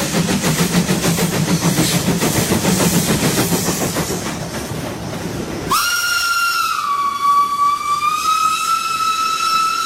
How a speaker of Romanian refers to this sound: Atențiune, atențiune! Trenul Orient Express din direcția Paris via Hamburg sosește în stație la linia 1, va gara și va pleca în direcția București-Istanbul. Atenție la linia 1!